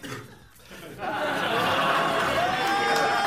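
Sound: audience applause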